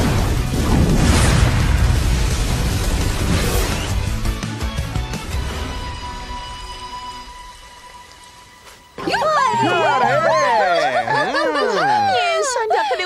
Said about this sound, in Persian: ببین بچه ها، نباید شلیک کنیم. آماده؟ آتش!